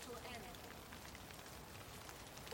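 Steady rain falls throughout, a dense, even hiss of drops pattering on a surface, fairly soft and continuous with no break, and no other distinct sounds standing out.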